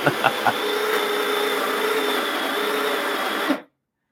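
household object, coffee grinder grinding beans

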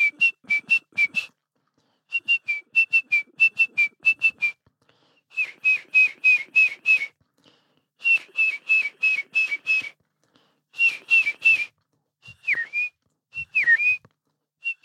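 bird, great tit song

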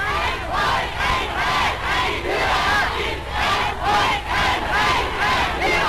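crowd, crowd cheering

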